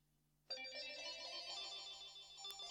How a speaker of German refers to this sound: Oh, Telefon.